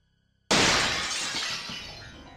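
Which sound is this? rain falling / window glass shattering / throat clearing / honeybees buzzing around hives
window glass shattering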